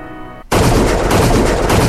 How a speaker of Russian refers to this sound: Вдруг машин за угла, три выстрела, тебя уже здесь нет.